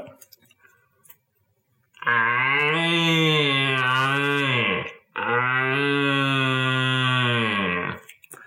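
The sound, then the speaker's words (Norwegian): Two long, deep bellowing roars, each about three seconds, rich in buzzy harmonics with a slight downward sag, blown through a slightly ribbed plastic tube, about the size of a red deer stag's throat, to imitate a stag's roar, the call used to lure a stag; no talking. “Men det her er jo da et hjortebrøl, men det er ikke det vi har sagt at det er den lyden jeg lager når jeg skal lokke på en hjortebok.”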